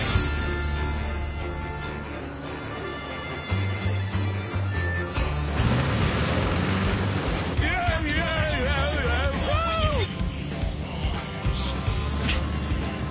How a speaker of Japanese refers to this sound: 大陸横断レース初日、フレレースのゴールに選ばれたここランカスターでは、大勢の観衆がレーサーたちの到着を待ち構えています。